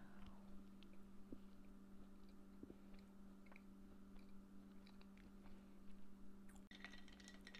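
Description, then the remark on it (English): Quiet chewing of a chocolate chip cookie, soft irregular crunches and mouth sounds over a steady low electrical hum, with no one speaking. “It's a chocolate chip cookie. That's really good.”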